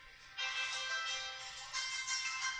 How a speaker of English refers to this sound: Is that our phone? No, it's mine.